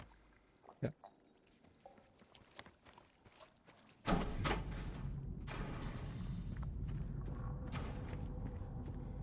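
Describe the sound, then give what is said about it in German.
Someone tries a locked door marked with the letter S: a few sharp clicks and a creak as the handle and latch are worked, followed by a sudden, steady loud rushing noise that continues to the end. “Ist zu.”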